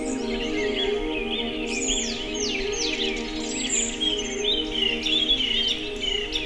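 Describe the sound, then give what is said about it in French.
A dense chorus of many birds sings continuously at sunrise on the slopes of the Cagire mountain, overlapping chirps, trills and whistled phrases over a steady low hum, with no one speaking. “Les oiseaux, une myriade d'oiseaux chantent ses gousilles.”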